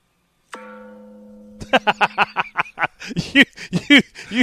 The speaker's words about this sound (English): Bless your heart. The virtual gong, man. We have to do what we can do.